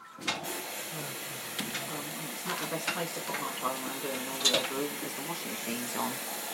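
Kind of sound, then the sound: household object, tumble dryer running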